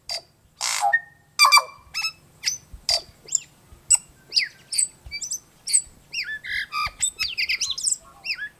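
A complex tui song of clear musical notes mixed with clicks, wheezes and odd buzzy sounds, delivered in quick varied phrases, with no one talking.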